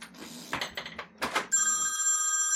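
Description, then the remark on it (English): A telephone rings loudly with a steady electronic trilling tone, preceded by a second or so of rustling and clattering movement. No one speaks. “Where are you, phone?”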